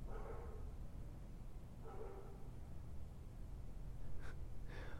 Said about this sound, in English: Oh, jeez. Dogs.